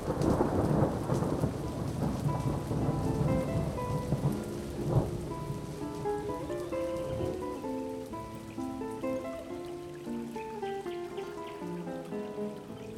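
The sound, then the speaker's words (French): A thunderstorm rumbles with steady rain and a sharp thunderclap at about five seconds, then fades beneath sustained, layered musical tones that carry on to the end. “Voyageant, j'ai pris les eaux troubles de l'orage, les boues, les torrents.”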